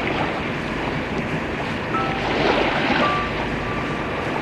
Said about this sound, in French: Le bateau fait un bruit terrible.